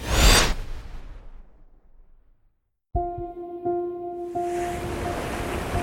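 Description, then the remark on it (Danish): A heavy North Sea wave, among waves over 20 metres high, crashes loudly against a fishing cutter's hull near the start, throwing water over the deck, and washes away into near silence, then a steady droning hum rises with rushing water and wind noise behind it. “Nordsøens bølger slår mod fiskekutterens skrog og kaster kaskader af vand ind over dækket.”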